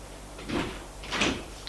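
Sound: door opening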